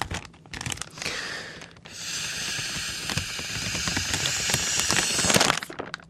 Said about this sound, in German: Ein Plastiksack und ein Röhrli mit kleinen Kügeln drin, das Ganze auspacken und schon kann man reinblasen.